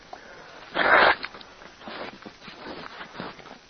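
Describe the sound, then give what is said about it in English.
A single short, forceful nose blow, a breathy rushing burst lasting about half a second, followed by softer snuffling and rustling noises. No one speaks. “Let me blow my nose first here.”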